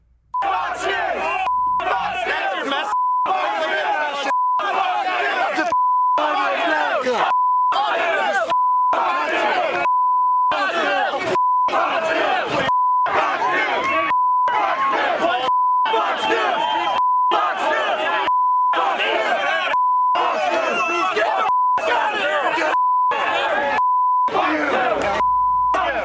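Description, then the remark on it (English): A loud, agitated mob shouts and chants continuously while steady censor bleeps cut in about every second and a half, chopping the yelling into short bursts. “I'm sorry if that sounded like a fire alarm to you, because they have to bleep out every second and a half, every millisecond.”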